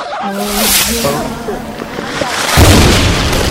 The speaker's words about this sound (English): Since it's early July, he had the perfect tool on hand to get rid of it. He had some fireworks.